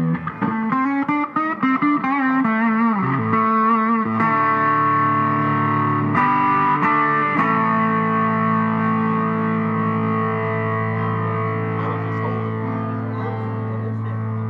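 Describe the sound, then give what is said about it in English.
An electric guitar played through a compressor pedal with its grid control and a little added distortion plays a quick run of notes, then lets a thick, gritty, compressed chord ring out and sustain evenly, loud with no voices. “Plus you have the grid control here, and you can add in a little distortion.”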